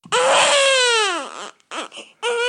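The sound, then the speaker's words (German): A newborn baby's first cry rings out loud: one long, wavering wail that falls away at the end, followed by two shorter, breathy cries. “Der erste Schrei eines Babys ist das A.”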